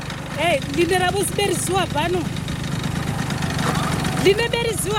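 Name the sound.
scooter engine idling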